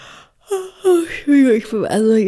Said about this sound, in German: Jetzt hat sie schon wieder so getan, als würde sie gegähnt. Nein, ich habe wirklich gerade gegähnt. Und das gebe ich auch offen zu, aber nicht, weil du mich langweilst, sondern man gähnt ja auch aus Mitgefühl.